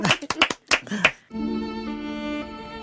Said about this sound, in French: Bravo Jean-Noël, on applaudit. Bravo Jean-Noël.